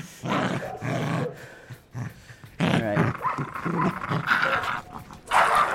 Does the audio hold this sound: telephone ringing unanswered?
no